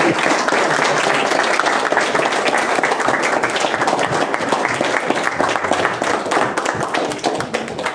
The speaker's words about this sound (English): You can clap now. You can clap now.